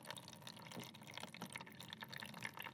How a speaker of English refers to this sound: So what I'm going to do now is put in our known gold sample, and it should displace a known volume of water. So we're putting one blob of the plasticine into one of the tanks, and water is now trickling out into the bowl.